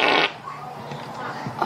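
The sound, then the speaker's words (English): A girl's loud, brief fart bursts out at the start, followed by a quieter stretch with faint voices murmuring in the background. “Some of these girls can really fart.”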